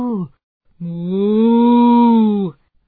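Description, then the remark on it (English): A loud, drawn-out cow moo, low and steady for nearly two seconds, preceded by the brief tail end of another call; no talking. “Moo. Roar. Roar. We can all talk to the animals.”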